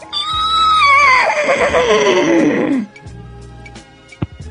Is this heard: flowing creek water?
no